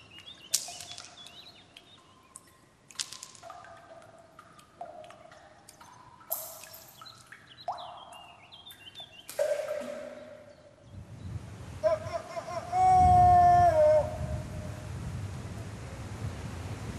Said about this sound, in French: Entendu, il y a un coucou. Ça ? Il y a un coucou, ouais, qui... Un mec qui a dit coucou ? Non, un coucou, l'oiseau. Ouais. Qui fait coucou.